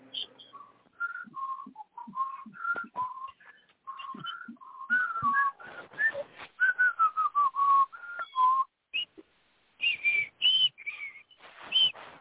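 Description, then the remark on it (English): The Jeopardy theme tune is whistled as a bouncy melody of short, high, clear notes, with a few brief pauses and a rising flourish near the end, with no talking. “Coach, could you hum the Jeopardy theme while we wait for the responses?”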